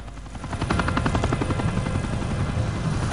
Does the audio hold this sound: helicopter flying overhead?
yes